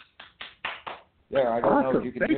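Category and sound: human body sound, hand clapping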